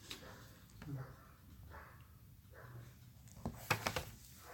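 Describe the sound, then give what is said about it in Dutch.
A handful of sharp dog barks burst out in quick succession near the end, loud, over a low murmur of background voices and noise. “Leuk zo'n hond.”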